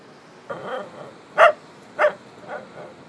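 A dog barks a few times, two sharp loud barks standing out between softer, quieter yelps, spaced about half a second apart.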